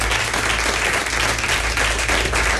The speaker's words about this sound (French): Merci beaucoup, vous voulez y applaudir pour la bonne humeur, merci.